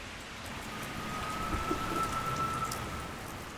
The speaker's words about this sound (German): Draussen regnet es immer noch